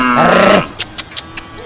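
A single short cow moo, loud, lasting about half a second before cutting off, followed by a few faint clicks in an otherwise quiet background.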